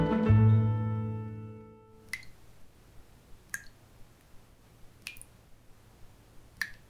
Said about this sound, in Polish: Kropla wody, która kapie co sekundę z tego kranu, może zrobić w naszym życiu dość dużego bałaganu.